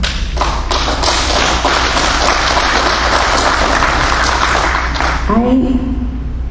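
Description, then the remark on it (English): An audience claps steadily for several seconds, a dense, loud patter of many hands with occasional sharper claps, before a voice begins speaking as the clapping fades at the end. “I'm not looking for applause.”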